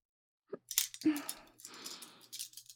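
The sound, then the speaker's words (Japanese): Small dedicated eyebrow scissors snip in a few quick, crisp clicks while trimming eyebrows, followed by soft, rustling metallic shearing as the blades work through fine eyebrow hair, fairly quiet with no talking. “こちらの専用のハサミって、チョキチョキと。”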